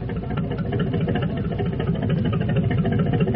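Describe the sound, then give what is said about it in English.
A ship's engine churns steadily at high power, running full astern on the order to back full, a deep, continuous rumble with a fast rhythmic throb underneath, loud throughout with no voices. “All right, engine room. Back full.”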